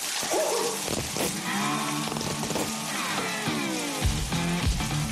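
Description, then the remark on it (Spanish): Steady hiss of shower water running, continuous throughout, with a famous person singing loudly under the spray in wavering, drawn-out notes. “quién es el famoso que canta bajo la ducha”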